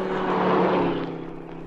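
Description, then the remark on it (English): A car engine drones past, swelling to a loud rumble with a steady low hum, then fading as it moves away. No voices. “Listen. Car coming.”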